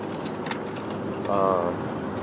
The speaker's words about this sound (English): Yeah, no, I'm driving. but there's like no traffic, and I'm cruise control, so I can write the person's name down.